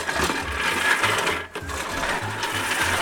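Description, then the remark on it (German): A manual push reel mower cuts grass with a steady whirring, clattering rattle of spinning blades, pulsing in a quick irregular rhythm, with a brief pause midway before it resumes. “Angefangen hat das mit dem Rasenmähen aber ungefähr so.”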